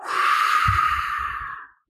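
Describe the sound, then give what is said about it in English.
A voice imitates wind blowing with a steady, breathy whoosh that holds for almost two seconds, fairly loud, then cuts off abruptly. “Then it sounded like wind blowing.”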